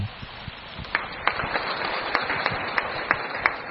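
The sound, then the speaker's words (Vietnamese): A crowd claps steadily throughout for the Venerable Thượng Trí before he shares his answers, a dense patter of many hands with a few sharper individual claps standing out, moderately loud, with no talking. “Mời quý vị dành tràng pháo tay cho Đại Đức Thượng Trí để nghe lời sự chia sẻ.”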